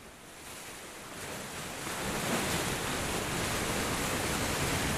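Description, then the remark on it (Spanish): Ocean waves breaking on a shore, a broad rushing wash that swells louder over the first two seconds and then holds as a steady surf roar with no voices. “Contar las olas en el ocaso del día.”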